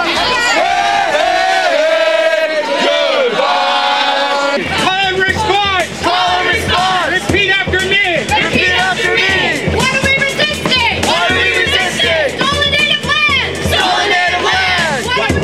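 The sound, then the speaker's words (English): A large crowd of at least 3,000 protesters at a family-friendly rally and march called Take Back Our City, organized by the 2010 Welcoming Committee, shouts and chants loudly and continuously. Many voices rise and fall together in rhythmic bursts and whoops throughout. “The evening brought out at least 3,000 protesters representing activists of all stripes”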